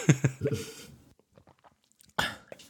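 Someone drinks water from a glass until it is empty: brief vocal sounds, then a quiet stretch of small wet sips and mouth clicks, ending in a louder sharp swallow or gasp-like burst.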